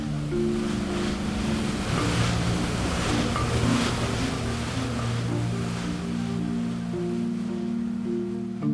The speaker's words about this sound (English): but the waves were getting choppy